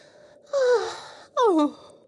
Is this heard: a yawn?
yes